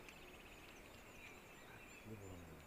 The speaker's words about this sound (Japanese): はい、もしかしたら違うかもしれない。十一とか、カッコウだとか、ホトトギスだとか、そういうのがツツドリの仲間なんですけど、ああいうやつがみんな出す声なんですよね。まあ、今ツツドリが鳴いてるんで、可能性としてはツツドリが一番。